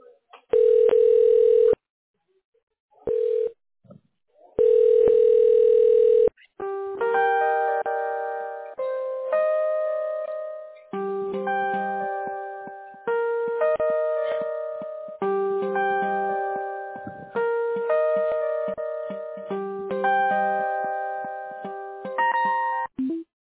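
A phone line rings out with a few steady electronic ringback tones, separated by pauses, before a tinkling melodic hold tune takes over and plays on at moderate volume, on a call to bring an agent at Heard and Smith onto the line.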